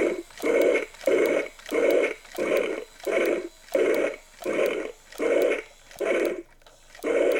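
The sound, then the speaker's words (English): A large toy figure's motorized jaw, driven by a motor wound by pushing down a switch, opens and closes with a steady, repeating munching growl, about nine loud gravelly bursts roughly a second apart, with no one talking. “Every time the jaw opens and closes, it makes that munching noise. It growls.”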